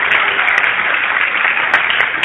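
Loud, dense audience applause for a poet after a poetry reading fills the whole stretch, a steady wash of many hands clapping at once with no pauses and no voices rising above it.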